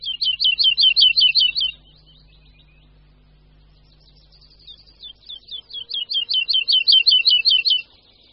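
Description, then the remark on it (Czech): Woodlark song: fluid, rapidly repeated high notes in an accelerating, descending trill, fading into softer scattered notes, then a pause before a second full trill builds up. A faint low hum underneath. “Do 60. let minulého století býval skřivan lesní u nás docela běžným ptákem.”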